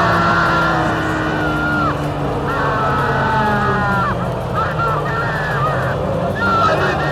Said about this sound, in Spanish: gritaba de felicidad por la radio.